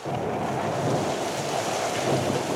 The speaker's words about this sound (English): And thunder.